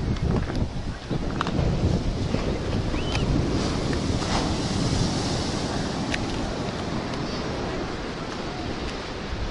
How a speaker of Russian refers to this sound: Ну что, вот наша лагунка. Вот наш море-океан. Тихий. Так, тихенький такой океанчик, тихенький.